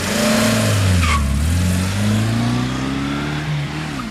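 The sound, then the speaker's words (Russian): A car engine roars and revs loudly, its pitch rising and falling as it accelerates hard, with a brief tire squeal near the start; no voices are heard. “затем они с невероятной быстротой нырнули в автомобиль.”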